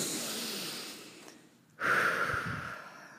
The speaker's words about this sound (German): Lass doch einfach mal ganz kurz atmen. Einfach mal.